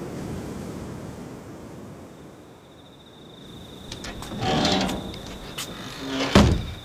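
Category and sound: household object, door banging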